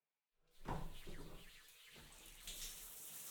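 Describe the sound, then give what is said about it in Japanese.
Water starts running with a sudden gush, then flows steadily and splashes for a few seconds, rinsing all the foam off someone being washed. “泡を全部流して洗い残したところを洗ってあげる。”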